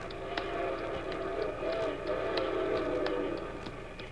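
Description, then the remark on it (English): A train approaching on railroad tracks, a steady rumble with faint high whine and regular metallic clicks of wheels over rail joints, holding an even loudness throughout. “Let's get across the tracks before it comes.”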